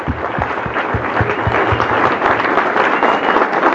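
A crowd breaks into steady applause, dense overlapping claps filling the whole few seconds at a loud, even level with no voices standing out.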